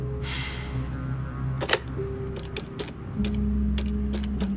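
Someone dials a phone number written on a slip of paper on a keypad: a quick, uneven run of crisp button clicks over a low steady hum with no one speaking.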